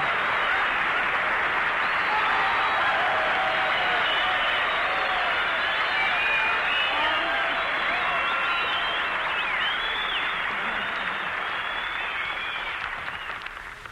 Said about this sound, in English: Well, listen to that. You know, Virginia, you got more applause than I did.